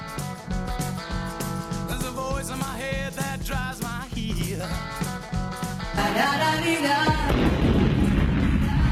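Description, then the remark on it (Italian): Rhythmic music plays for several seconds, then a loud, rumbling explosion of the Vesuvius volcano erupting bursts in near the end, a dense roar of noise swelling over the fading melody. “L'esplosione credo che sia quella del Vesuvio, tra l'altro. C'è il Vesuvio che esplode.”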